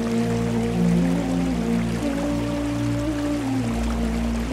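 A small waterfall splashes and rushes steadily throughout, a constant wash of falling water producing a great mist of droplets, with soft sustained low tones humming underneath.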